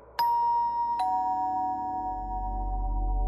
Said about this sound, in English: She was about to attempt an answer when the doorbell rang.